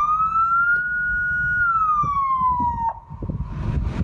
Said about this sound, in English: So the officer went back to the police car, turned off the sirens, which were still wailing because they wanted to calm the situation down.